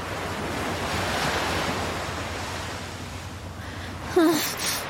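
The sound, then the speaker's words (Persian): Rough sea waves roar and churn continuously, loud, with wind noise blowing across the microphone and a brief high squeal near the end. “نامی، ظاهرن اوضاع دریا از نیروی دریایی بیریختره.”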